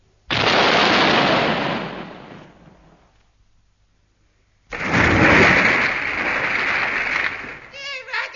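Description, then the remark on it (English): Two loud, booming salute shots are fired about four seconds apart. Each is a broad blast that rolls off into a long, rumbling decay, and a brief voice sounds at the very end. “It's time to fire a salute.”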